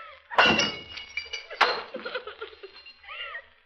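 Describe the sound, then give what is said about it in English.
Two sharp crashes of dishes being smashed, each a loud burst of shattering crockery followed by tinkling fragments, with a brief voice-like sound near the end. “When anything goes wrong, you have to break something.”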